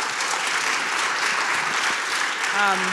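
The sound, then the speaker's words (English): A crowd applauds steadily at a question-and-answer session, a dense, even wash of many hands clapping at once. Near the end a voice briefly rises over the clapping. “Let's ask some questions, and if y'all can applaud that, sure.”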